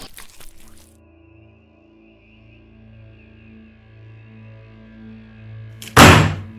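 A low, eerie droning hum fills a quiet space, then near the end a single loud, heavy, dull thud from a hallway lands with a muffled impact. No one speaks.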